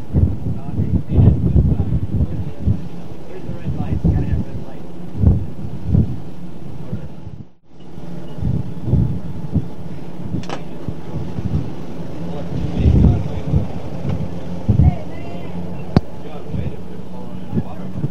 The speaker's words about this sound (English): It's a damn cold up there. Cold and windy. North Dakota blizzard. All we need is some snow.